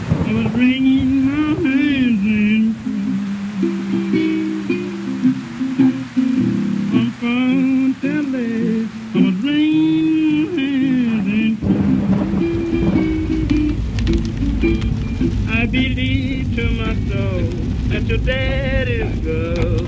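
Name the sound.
thunderstorm with rain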